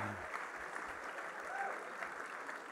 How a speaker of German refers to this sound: Spätestens jetzt wird das Klatschen weniger, alles wurscht.